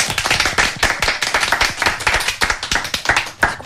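A burst of applause from a small group, dense overlapping claps filling the whole moment at a steady, fairly loud level, with no voices over it.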